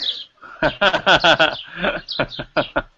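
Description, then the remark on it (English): Birds chirp and warble outdoors in a yard in a quick, rhythmic series of bright calls, fairly loud, with short pauses between bursts. “And there's a shout out also to all the birds in your yard, Julian.”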